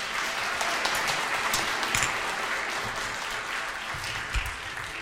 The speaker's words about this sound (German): Also ich finde, da haben die einen Applaus für verdient